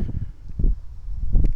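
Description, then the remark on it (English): Strong wind at the top of a hill buffets the microphone in heavy, loud, low rumbling gusts, swelling and dropping with a faint rustle, and no one speaks. “We got some really bad wind at the top of the hill here.”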